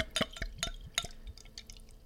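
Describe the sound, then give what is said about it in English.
Blood Red Sky Rum Barrel Red Ale, a 6.8% ABV beer, pours into a glass, with a quick series of gurgling glugs and liquid splashes that trail off into softer fizzing drips. Nobody speaks. “So let's give it a pour.”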